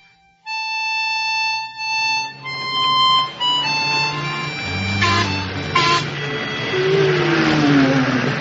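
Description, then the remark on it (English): A model train runs with a sustained, layered whistle tone, then a buzzing electric motor and rattling clatter over the track, ending with a falling whine. No one speaks. “Take her easy through the switches or she'll derail.”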